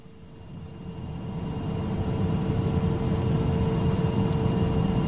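A steady, enveloping drone of an airplane cabin, deep engine rumble with a constant airy hiss and faint humming tones, swelling slightly at first and then holding even. No one speaks.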